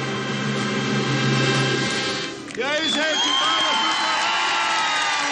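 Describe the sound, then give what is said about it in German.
A huge crowd of about one million people at Pope Benedict XVI's sunny open-air Mass on the Campo de Marte in São Paulo, Brazil, roars in a dense, steady wash of applause and singing, with voices cheering and whoops rising out of it after a brief dip, loud and continuous throughout. “Viel Beifall, Gesang, Sonne, Farbenfreude bei der Papstmesse auf dem Marsfeld.”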